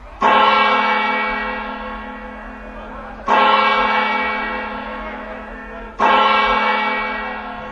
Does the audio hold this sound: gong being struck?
yes